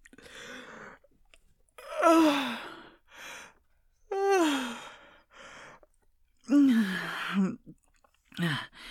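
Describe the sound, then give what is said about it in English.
A person makes an exaggerated fake yawn while watching a movie, as a move before putting an arm around someone's shoulder. It comes as a few drawn-out, voiced groans sliding down in pitch, separated by breathy pauses, fairly loud. “Oh, well, I thought it was obvious from the big fake yawn and my arm wrapping around your shoulder.”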